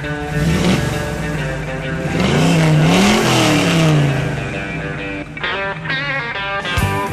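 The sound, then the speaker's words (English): Classic muscle car engines rumble loudly, one revving with a deep pitch that swells and falls before settling back into a steady idle, with other engines and faint crowd noise behind, as the cars cruise an avenue through eight communities from Ferndale to Pontiac. “It's a rolling block party of Motor City steel, beauty, and muscle. The Dream Cruise is the mecca of anything that's got wheels.”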